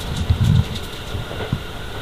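An 11-car train bound for Iwaki, Japan, rolls along, heard from inside the carriage: a steady low rumble and hiss with a few soft thumps from the wheels, and no voices.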